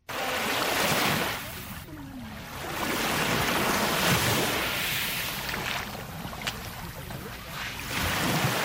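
Gentle morning waves wash steadily onto the beach of Lake Tanganyika at Kadiaga, in Mutimbuzi commune, Bujumbura rural province, 11 km west of Bujumbura, in broad, continuous surges, with a faint rush of wind and indistinct voices murmuring in the background.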